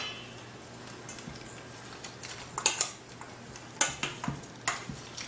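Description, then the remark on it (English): Chicken pieces being tossed in a bowl with salt, fresh pepper, garlic and ginger: a series of soft, wet clattering bursts and light clinks in quick uneven clusters, rising from a low steady hum, with no talking. “All right, we're going to give it a good toss.”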